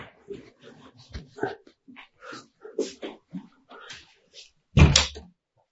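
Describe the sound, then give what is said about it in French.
A puppy whimpers and yips in a rapid string of short, high cries, then lets out one loud, sharp bark at the end. “Je pense que dès qu'ils entendent le chiot, ils sont excités.”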